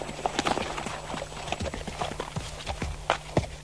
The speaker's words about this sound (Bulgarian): А този шум в далечината не е ли конски тропот?